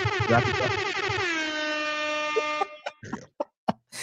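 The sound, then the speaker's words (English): Loud air horn blasts fire off in quick succession, a warbling stuttered run settling into one long sustained blare, then a few short sharp honks at the end. “Let's get one more air horn in.”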